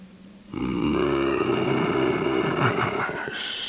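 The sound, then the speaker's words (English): The creature Master Thon growls, a deep, rough rumble that holds steady for about three seconds, loud and low-pitched with a gravelly texture, then cuts off. No one speaks. “You never do anything but growl.”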